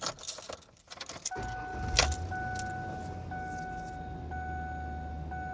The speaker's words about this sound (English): I'm going to start up the engine. And hopefully the check engine light will still be off here.